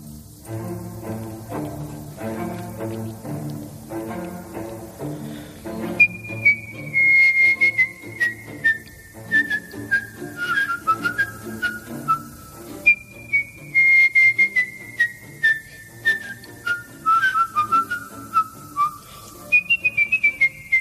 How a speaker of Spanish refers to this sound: Silbido en directo. La música también, claro, de fondo me da una pista importante. Es la ópera Carmen de Bizet.